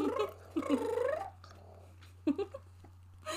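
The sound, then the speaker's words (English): A cat in heat yowls in long, wavering, drawn-out calls, one extended cry followed by a shorter pair of yowls after a pause, loud over a low steady hum. “And then I'm like having to pay attention to the fact that my cats are going manic. One's climbing on top of your shit and the other one's in heat going.”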